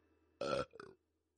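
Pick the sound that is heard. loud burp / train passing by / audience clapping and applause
loud burp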